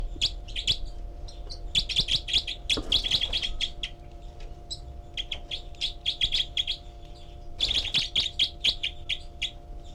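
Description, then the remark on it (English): A group of four young birds at a nest, recorded with a parabolic microphone, calls continuously: rapid, high-pitched chirps and twitters overlapping, including begging calls, with two louder bursts of excited calling, all over a faint steady low hum. “And this is the group of four birds.”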